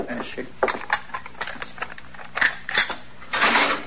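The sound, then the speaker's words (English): A jail cell door lock being unlocked: a run of sharp, irregular metallic clicks and ratcheting rattles, fairly loud, ending in a longer scraping clatter. “unlock the door.”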